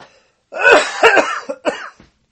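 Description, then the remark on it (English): A loud burst of harsh coughing, several rough hacks in quick succession with some throat clearing, lasting about a second and a half before stopping. “I didn't push the cough button.”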